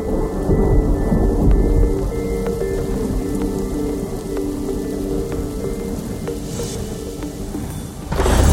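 Steady rain pours down with a dense, continuous hiss, while deep thunder rumbles low beneath it throughout. There is no talking, and the storm sounds close and fairly loud.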